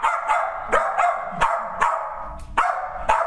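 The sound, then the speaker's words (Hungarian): A pit bull barks in a steady series of about seven sharp, loud barks, each coming roughly half a second apart, with no one talking. “Akkor elmondom neki, hogy engedj el, 7 éves lesz, akkor ugatnia kell majd most.”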